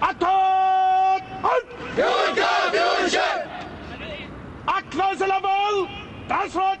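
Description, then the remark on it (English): Troops of Iraq's Civil Defense Corps mustering for morning drill at 8 a.m. at an old Iraqi military base in Baghdad: a loud, drawn-out shouted command is answered by a burst of many voices calling out together, followed by more sustained barked orders and another group shout. “and troops from Iraq's Civil Defense Corps muster for morning drill.”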